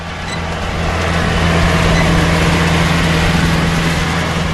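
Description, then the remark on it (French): A heavy tractor engine drones steadily and loudly as it ploughs land to be planted with rice, a constant low diesel rumble with a faint whine, running without a break and with no voices. “Un tracteur laboure des terres sur lesquelles on devrait prochainement cultiver du riz.”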